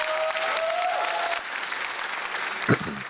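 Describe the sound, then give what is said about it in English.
A crowd claps steadily in a dense, continuous wash of applause, fairly loud, with a brief whistle-like tone early on and no speech. “Audience, big round of applause.”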